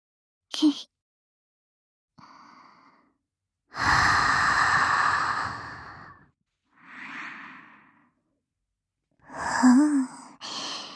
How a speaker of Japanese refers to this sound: はぁ、吐息を吹きかけるだけで、こんなにビクビクと。